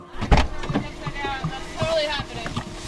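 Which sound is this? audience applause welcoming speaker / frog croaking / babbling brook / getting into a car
getting into a car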